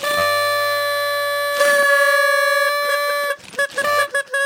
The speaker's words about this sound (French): On dirait un embouteillage.